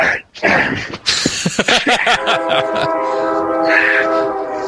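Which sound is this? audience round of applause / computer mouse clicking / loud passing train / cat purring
loud passing train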